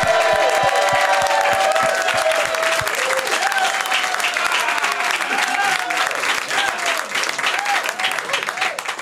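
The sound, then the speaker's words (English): A studio audience applauds loudly and steadily, with cheers and whoops rising over the dense clapping, which continues without pause and tapers only slightly toward the end. “Hot crowd!”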